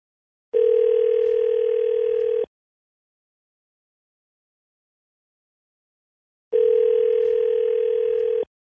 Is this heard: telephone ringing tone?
yes